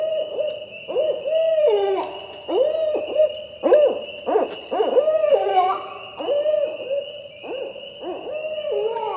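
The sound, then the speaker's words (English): A female barred owl gives a hoot variation, a call given by females in flight while chasing other barred owls on their territory: a rapid run of wavering, quavering hoots, loud, with uneven rhythm, over a steady high-pitched drone in the background. “Then there's a female hoot variation, which has been heard given by females in flight while chasing other barred owls on their territory.”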